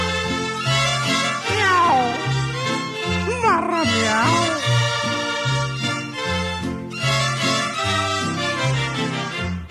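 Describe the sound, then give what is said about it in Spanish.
Drawn-out, wailing cat meows, imitated by a voice, rise and slide over a loud, steady musical accompaniment with a pulsing bass, forming a mournful meowing serenade that continues throughout. “Con esta triste y maullida serenata, la noche es una lata, no duerme el más gallón.”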